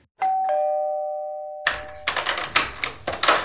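A doorbell at the front door of a house chimes two tones, high then slightly lower, ringing out and slowly fading, before a run of loud, irregular clattering clicks takes over.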